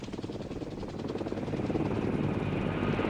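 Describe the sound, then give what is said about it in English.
Steady, loud helicopter noise from inside the cabin, with Golda Meir aboard and two pilots at the controls: a dense engine roar with the fast rhythmic chop of rotor blades pulsing throughout, growing slightly heavier toward the end, with no voices. “Gold appears closer to the window of the helicopter.”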